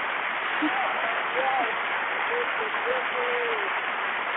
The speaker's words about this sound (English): You always bring it, so I had to clap it up for you twice because you're so deserving.